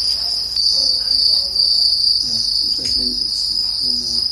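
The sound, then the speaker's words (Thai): Dense, continuous chirping of many crickets on a cricket farm in Kisumu, Kenya, fills the air in a steady high-pitched drone, with faint low background noises underneath and no voices. “ชาร์ลส์โอดีราเกษตรกรในเมืองนี้เป็นคนบุกเบิกการทำฟาร์มจิ้งหรีดค่ะมีจุดเด่นคือเสียงร้องที่เป็นเอกลักษณ์แต่ว่ากลายมาเป็นอาหารทางเลือกของผู้คนในเคนยาค่ะ”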